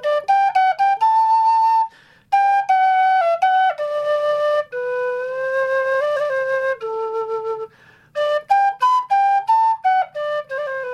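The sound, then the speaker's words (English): A low G tin whistle plays a lively folk melody with breathy, mellow tones, quick ornamented runs and held notes, played alone with brief pauses between phrases. “But I brought in my low G whistle. Low G, the lowest note.”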